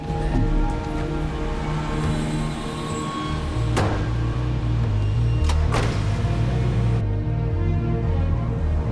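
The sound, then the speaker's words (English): A van's rear doors slam shut after a hooded, chained prisoner from a personal jet is laid in the back, two heavy thuds about two seconds apart, over a steady low engine rumble that continues throughout. No one speaks. “He's laid down in the back and the van's rear doors are closed.”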